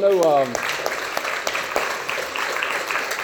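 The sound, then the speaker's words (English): A crowd breaks into steady applause, giving the Lord a hand after a piece of music, a dense, even patter of many hands clapping that holds at a constant level, just after a brief bit of a man's voice at the start. “So can we give the Lord a hand for that again?”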